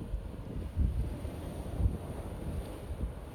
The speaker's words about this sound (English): And the wind blowing in my face. The sound of the waves crashing.